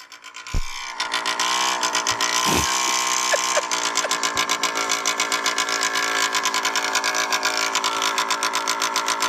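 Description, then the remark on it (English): An engine idles with a loud, steady, rapid chugging rhythm that holds throughout, with a couple of dull thumps near the start. “That's just idling.”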